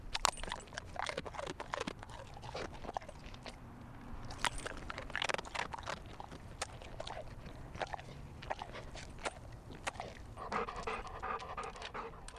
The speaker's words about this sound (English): Max, the Labrador Retriever, neighbor dog, catching snacks midair on a spring day.